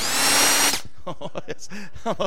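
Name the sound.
cordless power drill running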